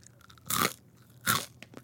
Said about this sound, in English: Definitely, that's definitely the pumpernickel.